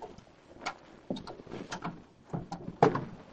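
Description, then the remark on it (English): A car door unlocked with a key from a leather key case and opened: a series of metallic clicks and rattles, then a firmer latch clunk near the end, with no voices. “He unlocked and opened the car door.”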